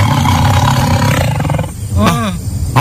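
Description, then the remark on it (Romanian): A loud, deep tiger roar rumbles steadily for a couple of seconds, heavy, then breaks into a brief wavering, rising-and-falling growl near the end, from a tiger charging in a jungle. “Se plimba el liniștit așa și pac, vede un tigru. Tigru se îndreaptă spre el în goană, așa, cu intenția clară să-l mănânce.”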